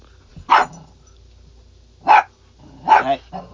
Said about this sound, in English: You hear my little doggy here.